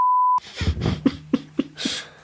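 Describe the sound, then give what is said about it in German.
A loud, steady censor bleep sounds once for about a third of a second, then cuts off abruptly as a voice carries on talking. “Einfach, piepen wir auch.”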